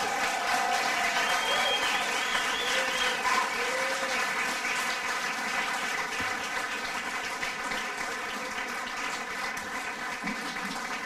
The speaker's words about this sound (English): you and all the other conservationists, just another round of applause.